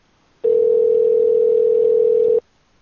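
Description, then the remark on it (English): One steady, mid-pitched telephone tone sounds alone for about two seconds as a call to a bar and grill rings out unanswered, then cuts off into silence. No one speaks. “All right, we're calling Bar and Grill.”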